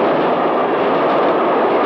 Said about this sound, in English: There's a train coming. Listen to it.